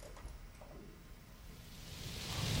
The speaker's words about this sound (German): Es regnet. Achso, das ist hier. Kommt das von draußen jetzt hier?